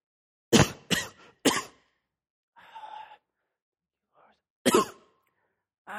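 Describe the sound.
A person imitates the coughing of someone standing next to a worshipper during worship: three quick, harsh bursts, a short breathy sound, then one more loud cough a moment later. The coughs are fairly loud.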